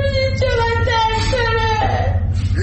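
A person moans in pain with long, wavering, drawn-out groans, close and fairly loud, over a steady low background hum.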